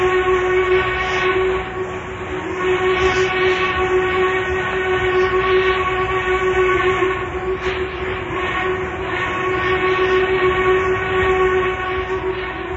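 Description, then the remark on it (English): A long-haul freight train, a doubleheader of 147 cars carrying grain, runs at high speed over wooden rail ties, with a loud, continuous rumble and clatter carrying a sustained tonal hum throughout, with no voices. “This is a train that is highballing it on a long haul.”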